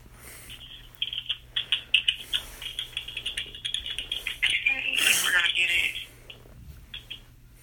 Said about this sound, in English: You must be using a mechanical keyboard. Mechanical? It's loud, isn't it? Yeah, I just noticed that. I was like, wait, what kind of keyboard is that?